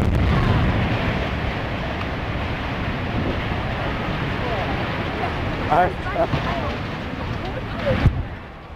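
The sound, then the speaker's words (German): A heavy demolition blast set off by a blasting master rumbles throughout, dense and bass-heavy, with a few sharper cracks and thumps toward the end and faint voices murmuring beneath. “Der Sprengmeister hat eine gute Arbeit gemacht.”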